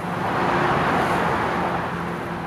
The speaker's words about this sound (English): Sounds like blowtorches, the tall tower crane, the wonderful noise of the bay beneath, and the cars that are passing on the new Bay Bridge right next to it.